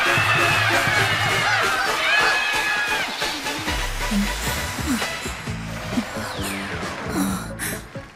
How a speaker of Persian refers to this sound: صدای تشویقا رو که از استدیو شنیدیم واسه همین فهمیدم درست حد زدی. بعد از شنیدن صدا پریدی.